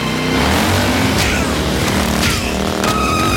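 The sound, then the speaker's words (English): A loud motorcycle engine roars steadily throughout as the evil Middleman character bursts in riding it, punching people; its revving rumble is layered with sharp high-pitched screeches and brief bursts of clatter. “And I love that he's just riding through on a bike, punching people.”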